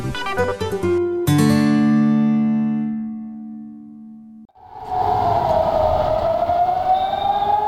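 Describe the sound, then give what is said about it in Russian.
A few sustained electronic tones give way to a loud air raid warning siren in Israel, its steady wail slowly rising and falling over a wash of outdoor noise. “Сирены, оповещающие о воздушных налетах, были слышны по всему Израилю во вторник утром.”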